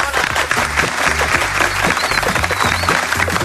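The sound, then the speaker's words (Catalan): Sustained applause from an audience for Sandra White, mayor of Reus, a dense steady patter of many hands clapping at even loudness throughout, with faint crowd murmur underneath. “Un aplaudiment per ella.”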